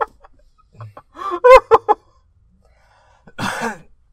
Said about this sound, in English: Well, you're coughing a lot, so you're probably going through withdrawals.